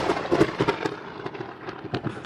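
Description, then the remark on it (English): A thunder and lightning sound effect: sharp, crackling bursts of electric-sounding snaps over a rumbling bed, loud, with no one talking. “you have to answer real lightning, okay?”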